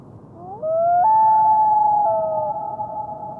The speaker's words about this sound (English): we're going to hear is the wail, which is a long-distance communication vocalization given between a mated pair of birds when they're out of sight of one another and they're trying to establish contact. It's essentially, here I am, where are you?